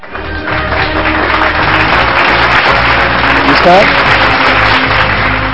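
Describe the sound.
Loud, sustained applause from a crowd, a dense steady clatter of clapping that holds strong for several seconds with a brief rising voice-like tone partway through.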